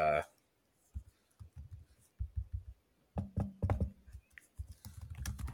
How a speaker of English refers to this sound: Yeah, give me them typing noises. Sorry, you know I love those.